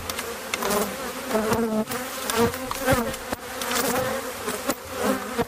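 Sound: bees buzzing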